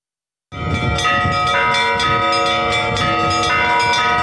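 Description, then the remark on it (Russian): Monastery church bells of the Trinity-Skanov monastery in Narovchat district peal continuously for its patronal feast day, in a rich, layered ringing, with repeated strikes of several bells overlapping in a steady rhythm. The ringing is loud and sustained, with no voices. “Звон монастырских колоколов слышен издалека.”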